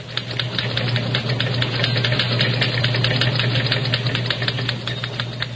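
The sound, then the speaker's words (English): Continuous rapid mechanical clatter of typewriters in a radio newsroom as news programs are rewritten, with Press Association teletype machines in the background: a dense steady stream of sharp clicks over a low constant hum, with no voices. “Let us turn on a microphone in the newsroom and hear the clatter of typewriters as news programs are rewritten. Again, you will hear in the background Press Association teletypes.”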